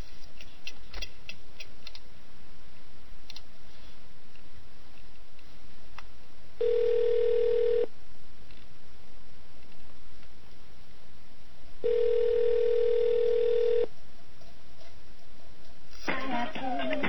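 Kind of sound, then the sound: signal or alarm, telephone ringing tone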